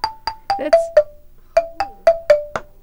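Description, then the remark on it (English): A wooden doorbell from Vancouver Island, meant to hang on a front door, plays a short musical tune: about a dozen clear, struck notes with quick decays, two phrases separated by a brief pause, moderately loud with no voices. “That's my new doorbell. Oh, yeah? Yeah, you hang that on your front door.”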